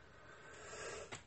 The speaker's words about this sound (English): Excuse me. Like I said, I apologize. I know me coughing probably gets on everybody's nerves, but it happens.